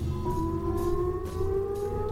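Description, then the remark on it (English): A loud air raid siren holds a steady, droning wail, its tone sliding slowly upward, with a low rumble beneath and no voices. “It's almost like a nuclear raid sound, isn't it?”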